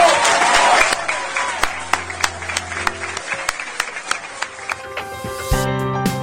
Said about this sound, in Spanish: Ahí bueno, se aprecia la gran cantidad de público, ¿sí?, ¿no?, que llenaba el salón. Es verdad, es verdad. Rompieron en un gran aplauso al final de la votación.